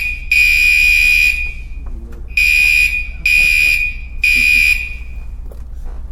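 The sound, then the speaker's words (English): A fire alarm blares in loud, piercing beeps: one long blast, then three shorter bursts in an uneven rhythm, with a low background hum between them. “Fire alarm.”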